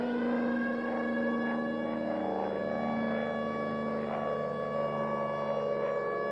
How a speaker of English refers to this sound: Whenever the air raid siren goes off, you know what that means.